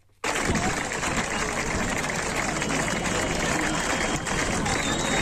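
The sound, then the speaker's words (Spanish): A crowd in the streets of Laudio claps steadily in a dense, crackling wash of applause that starts suddenly and holds at an even, loud level, with scattered voices mixed into the clapping. The crowd is welcoming Autoglas Glavista workers who are ending a three-day lock-in at the plant. “Con una lluvia de aplausos han recibido las calles de Laudio a las y los trabajadores de Autoglas Glavista que hoy han acabado con su encierro de tres días en la planta.”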